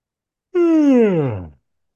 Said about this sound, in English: I'm yawning, so it must be happening.